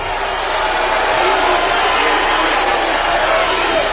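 A loud studio audience shouts suggestions to a contestant all at once, a dense, continuous wall of overlapping voices calling out with no single words standing out, sustained steadily for the whole moment.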